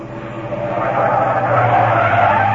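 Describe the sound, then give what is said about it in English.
A taxi's tires skid loudly as it stops suddenly, one long, steady screech with a rough engine-like rumble beneath, holding strong throughout without fading. No voices are heard. “Stop this car at once!”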